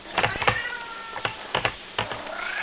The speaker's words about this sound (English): Next you'll be telling me that cats and cows and other sorts of animals can speak Dutch. It's preposterous! You, cat, be quiet!